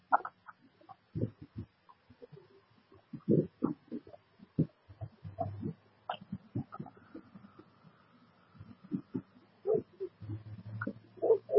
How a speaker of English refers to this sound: Wow. That doesn't sound like a happy dog. I think if he had a chance to get out of there, he'd try to kill everything he sees.